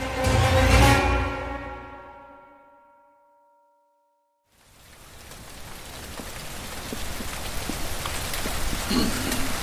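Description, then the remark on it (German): A resonant metallic clang rings out and fades into a brief silence, then heavy rain starts in, a dense, steady downpour with crackling drops that grows slightly louder. No one speaks. “Erst dieses scheußliche Essen und dann dieser fürchterliche Regen.”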